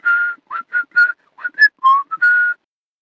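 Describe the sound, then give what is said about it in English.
A reconstruction of the first live musical performance from space: a few bars of Jingle Bells played on harmonica and bells, about nine short bright notes in a bouncy rhythm, moderately loud and alone with no talking. “That was a reconstruction of the first live musical performance from space, Jingle Bells.”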